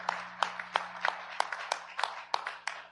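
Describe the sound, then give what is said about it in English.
A church audience gives a hand clap of praise for a $200 donation made to the church, clapping in a steady, fairly quick rhythm, sharp crisp claps about three per second over a soft wash of scattered clapping and low murmur. “So let's give them a hand clap of praise.”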